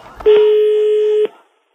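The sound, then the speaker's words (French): A single steady electronic phone ring tone sounds for about one second, loud, with a faint click before it and a short fade after, as François Ruffin places a phone call to get precise information. “Il a passé un coup de téléphone pour avoir des informations précises, très très précises.”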